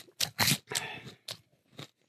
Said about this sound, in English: Well, we're snacking in this one, so you're going to hear a bunch of crunching.